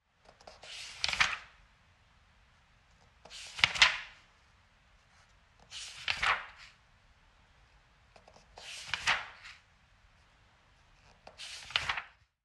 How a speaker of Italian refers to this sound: È un libro che viene sfogliato.